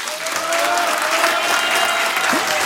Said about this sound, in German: An dieser Stelle wünsche ich mir jetzt einen riesengroßen Applaus für alle Freiwilligen bei uns im Land.